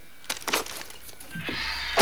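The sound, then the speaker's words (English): A few sharp metallic clicks from a door handle being turned, followed by the rising rush of a door swinging open, ending in a louder bump, with no talking. “He goes to kick the door in, but stops and turns the handle instead.”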